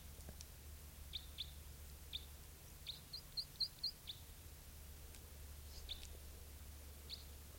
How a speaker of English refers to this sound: Here's that bird.